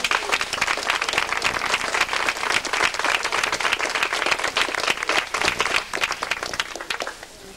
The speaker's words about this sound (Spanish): ¡Viva! Un aplauso.